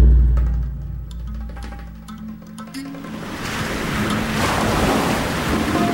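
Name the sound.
ocean waves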